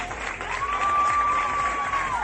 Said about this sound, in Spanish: Así, con aplausos, despedían en la noche de este viernes los clientes de una terraza a los propietarios de un restaurante murciano.